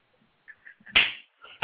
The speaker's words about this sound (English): Come on. I heard slaps.